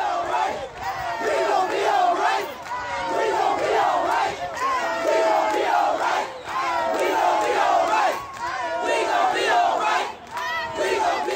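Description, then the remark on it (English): A large crowd of protesters in Cleveland chants a song's refrain in unison, loud, with repeated phrases rising and falling steadily for the full stretch without pause. “protesters in Cleveland chanted the song's refrain after an altercation that led police to using pepper spray on the crowd.”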